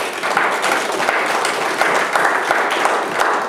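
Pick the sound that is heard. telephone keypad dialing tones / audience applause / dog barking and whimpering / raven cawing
audience applause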